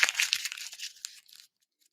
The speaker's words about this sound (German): Ich werde jetzt das Blatt Papier zerknüllen.